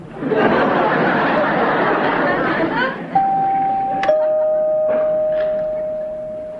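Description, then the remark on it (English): A doorbell rings with two sustained chime tones, the second slightly lower, sounding after a burst of audience laughter and chatter that fades as the tones ring on. “I'm giving you the equal right to answer the door.”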